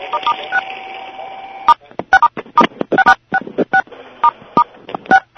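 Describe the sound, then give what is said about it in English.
Phone keypad tones over a conference call line as a caller presses *6 to mute their phone: a long steady tone held for over a second, then a run of short, uneven touch-tone beeps mixed with brief crackly bursts. “We're going to be muting the entire call pretty soon to avoid a lot of the feedback that we're getting, but up until that time, the lines are open, so if you want to mute your phone just to reduce the noise disturbance, press *6.”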